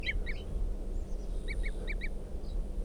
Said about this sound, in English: It's a wild bird tooping there. And the bird's coming down. I'm still pointed up at the wild bird. Chitter, the wild bird. And it's a male. Wild bird. Red male. With a right crossing bill. Yes, right cross. Different bird. This one's bright red.